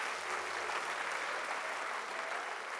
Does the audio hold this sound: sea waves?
no